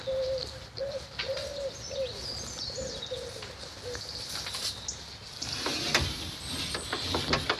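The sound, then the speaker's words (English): A wood pigeon coos in a steady repeating phrase, while smaller birds chirp and tweet around it and some faint clicking mechanical sounds come in toward the end. “Oh, that's the wood pigeon.”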